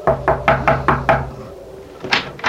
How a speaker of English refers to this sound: I crossed the driveway, rapped on the door.